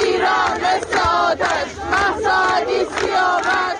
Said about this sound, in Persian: مراسمی که در آن شعارهای ضد حکومتی سر داده شد